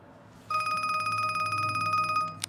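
A telephone rings with a single loud, rapidly trilling burst lasting about two seconds, then cuts off with a sharp click. No one speaks.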